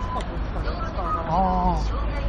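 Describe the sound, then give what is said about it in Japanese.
Busy outdoor street ambience at an intersection on Imadegawa Street, in front of a 7-Eleven with many bus stops: a steady low rumble of passing traffic beneath overlapping voices talking, with the hum of the roadway continuing throughout. “あ今ちょうど僕らはセブンイレブンのそのなんか今出川通りと何、これ何通りやったっけ、交差点とかのセブンイレブンの前におるんで、 バス停いっぱいあるんですよ。”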